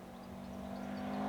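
A small motorized toy car whirs past, its buzzing motor tone rising steadily in loudness over a second or so, with no voices present.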